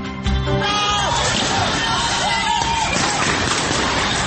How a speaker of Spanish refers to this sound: Esos gritos hacen parte de los 74 minutos de registros fílmicos que recogió la Alcaldía Mayor de Bogotá para entregar a la Procuraduría General de la Nación en videoclips capturados durante las protestas del 9 y 10 de septiembre de este año,